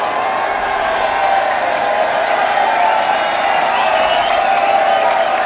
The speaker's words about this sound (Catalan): Els grellers s'aturen mentre un pilar de tres, amb una mica de pinya. És aplaudit per una de les colles